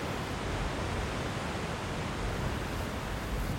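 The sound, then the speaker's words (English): A steady, continuous roar of ocean waves crashing onto sharp, pointed rocks at the foot of a steep sea cliff by the Esheness Lighthouse, heard from above as one unbroken wash of surf with no individual breakers standing out and no voices. “It's a long, steep fall, and down there are sharp, pointed rocks and currents and waves that meet land the first time since they left America.”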